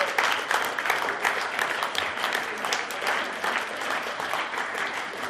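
A room full of people claps steadily, a dense, continuous wash of hand claps that stays fairly even in loudness for several seconds with no voices standing out.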